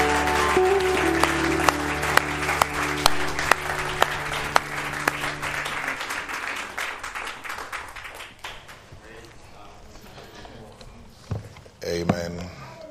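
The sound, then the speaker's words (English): An audience at an evening worship service claps for the Lord together in a loud, dense burst of applause with a few sharper slaps standing out, then the clapping thins and fades over the last several seconds. “Give him a hand clap tonight.”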